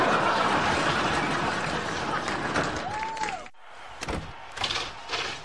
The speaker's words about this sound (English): maybe we should shut this door.